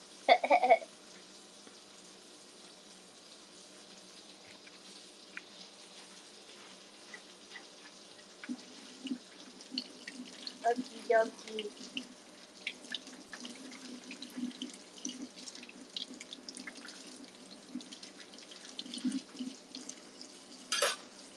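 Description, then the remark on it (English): A kitchen tap runs steadily while a pan full of oil is washed under it, with splashing and occasional clinks and scrapes of metal, moderately loud, with brief louder bursts at the start and end. “And I gotta wash this pan too, because it is full of oil.”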